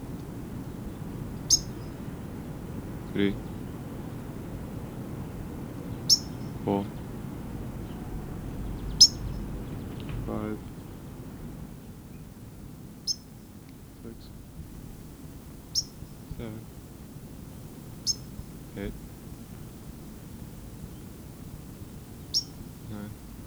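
A white-crowned sparrow directly overhead gives sharp, high alarm chips, about ten of them, spaced irregularly every couple of seconds over a steady low rumble of background noise.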